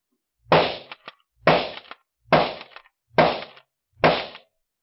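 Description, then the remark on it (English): Five sharp rifle shots ring out one after another at a steady pace at a target 50 yards away on a shooting range, each a loud crack with a brief echoing tail, all five hitting the bullseye, and no voices in between. “5 shots and 5 bullseyes.”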